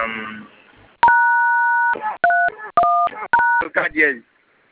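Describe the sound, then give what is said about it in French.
A series of telephone keypad tones as a code is entered on a phone: one long dual-tone beep followed by three shorter ones in quick succession, loud, with brief bits of voice before and after. “Vous avez un code Tongo activé au téléphone.”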